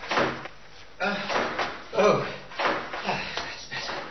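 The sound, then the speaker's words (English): A revolving door bumps into someone, giving a few muffled thuds at roughly regular intervals, with people's voices murmuring alongside. “Mind the revolving door.”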